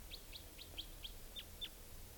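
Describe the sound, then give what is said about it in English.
A type 2 wild bird calls a quick, steady series of about seven sharp, high-pitched chip notes, each a brief downward flick, faint over a low background rumble with no talking. It is late evening, about 8 o'clock, and the bird is alone, perched on top of a tall larch tree at the edge of a clearing. “Trying to find, okay, here's the type 2 wild bird.”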